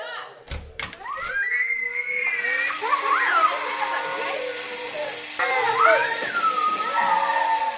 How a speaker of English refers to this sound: Oh, how the young ones love this section. They just scream with delight when we bring them in.